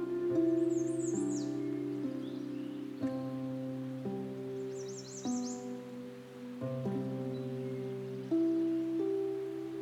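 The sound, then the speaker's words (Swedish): Two short bursts of high bird chirping, at the start and midway, ride over a steady, sustained tonal drone and a soft, hissy background, with no talking. “Jag hör fåglarna.”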